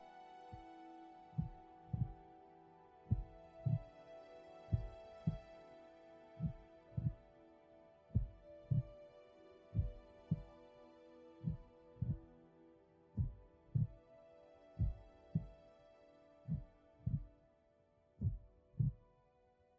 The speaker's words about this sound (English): Take a few moments to experience the holy heartbeat in the silence.